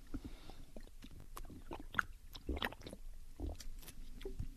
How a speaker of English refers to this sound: I've got to wet my whistle. I've been doing a lot of preaching today, and I got a little bit of a dry throat.